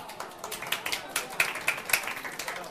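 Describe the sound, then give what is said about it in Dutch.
A church audience applauds a mother with her newborn child, producing a steady, irregular patter of overlapping claps with a few sharper hand-claps standing out, at a moderate level throughout with no voices. “Applaus, hè, met moeder, gefeliciteerd nog.”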